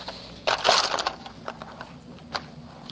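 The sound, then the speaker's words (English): Binders and papers being handled and passed out: a loud burst of rustling and shuffling, then scattered softer crinkles and taps, with no one talking. “You're going to have to make sure that they have their names on, and each week just have to give them their binders, okay? So we'll pass it out now, and I'll help out with the pencils, and then we'll jump in, okay?”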